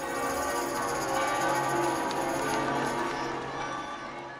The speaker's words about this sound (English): All the way in, shouts went up from the square, barges blasted their water cannon, and church bells pealed their sonorous salute to Peter as the Lion of St. Mark danced in the seaward breeze.